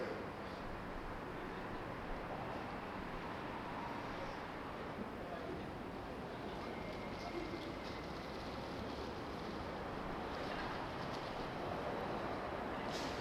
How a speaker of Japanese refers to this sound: 皆様、まもなく4番線に電車が到着いたします。危険ですからご注意ください。